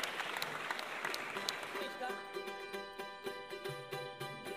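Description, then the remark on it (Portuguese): An audience claps in a dense burst of applause that thins after a couple of seconds, leaving scattered claps under a steady, high-pitched tonal hum. “Então, uma salva de palmas para a vela que aqui acendeu.”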